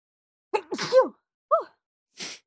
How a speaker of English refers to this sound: I'm going to sneeze.